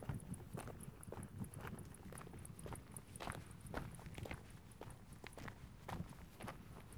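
Steady footsteps crunch along an outdoor path beside fields in the commune of Granes at an even walking pace, with a faint breezy background and a soft high chirping throughout.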